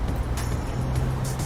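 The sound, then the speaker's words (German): A city bus rumbles on the Kurfürstendamm (Kudamm), a busy street, its low engine drone steady and loud amid the wash of passing traffic, with no voices. “So, ich laufe jetzt hier wieder über den Kudamm. Da ist der Bus.”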